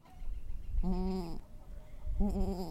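Two bleats from a goat on a small goat farm, each a wavering, harmonic cry lasting about half a second, separated by a short pause over low outdoor background rumble.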